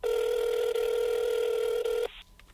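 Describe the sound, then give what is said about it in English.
A telephone ring that is part of a CD recording sounds as a single loud, steady electronic tone lasting about two seconds, then cuts off abruptly into near silence. No one speaks. “Don't go out and try to rush and answer your phone because your phone is not ringing.”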